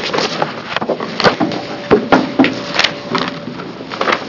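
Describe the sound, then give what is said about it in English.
Papers being shuffled as a committee chair closes a legislative work session on House Bill 3199: steady crinkly rustling with several sharper rattles and thumps scattered through, fairly loud, with no talking. “And with that, I am going to close the work session on House Bill 3199 and shuffle some paper here for just a second.”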